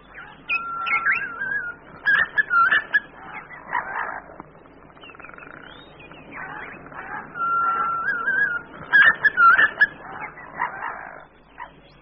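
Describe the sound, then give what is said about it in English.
A green pigeon's warbling, whistled calls repeat in phrases of rising and falling notes, clear, with short pauses between bursts and no voices. “The green pigeon, so like the parrot in habit, interrupted his upside-down meal to greet them with his peculiar call, so different from that of the ordinary pigeon.”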